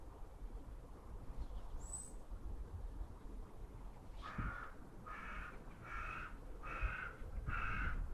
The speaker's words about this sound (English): Ah, just our friends, the crows. That's very fresh. It's very nice.